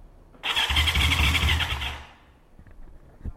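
A motorcycle's electric starter, engaged by pressing the starter button after the key and gas are turned on, whirs loudly for about a second before the engine catches and rumbles briefly, then settles down, with no talking.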